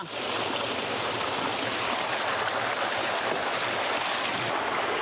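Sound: rushing water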